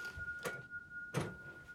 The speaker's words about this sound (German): Es wird aufgeschlossen. Axel tritt ein. Er schließt die Tür und blickt sich um.